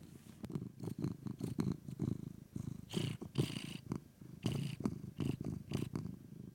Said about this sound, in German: Außer Schnurren kommt da nichts mehr raus.